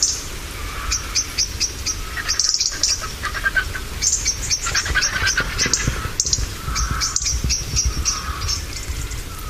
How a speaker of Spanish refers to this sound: Cae la tarde, marquillean los mirlos, chisporrotean los petirrojos.